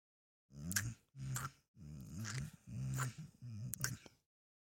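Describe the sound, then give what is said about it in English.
A male dog growls and grumbles in a series of five low, rumbling bursts with short gaps, fairly loud, ending in a softer whine-like grunt. “Yeah, woof for me. Good boy. Good boy.”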